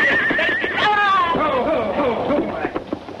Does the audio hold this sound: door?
no